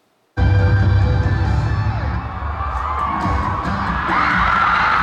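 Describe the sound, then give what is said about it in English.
A loud, dense wall of crowd screaming and cheering at a pop band's concert, recorded on a phone, erupts abruptly and holds steady, high-pitched shrieks from teenagers, mothers and grandmothers layered over a low rumble, like a packed concert audience. “Do you hear that screaming? Like, that's on my phone.”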